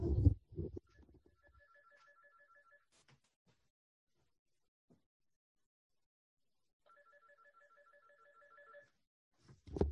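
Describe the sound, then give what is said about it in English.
A phone rings with two bursts of a repeating electronic trill, each lasting about two seconds, separated by a long quiet gap; faint shuffling and bumps are heard at the start and end. “My phone naturally is ringing.”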